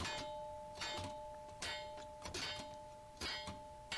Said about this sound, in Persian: میذاره روی یه سطحی و پت با چکش میزنه روی اون ظرفه. ای میزنه، هی با چکش میزنه، هی با چکش میزنه، هی با چکش میزنه.